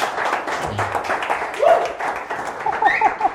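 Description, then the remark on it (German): Audience applause: a dense, steady patter of many hands clapping for several seconds, with a few short high whistles and cheers rising out of it toward the end. “Ja, ja, einmal Applaus bitte.”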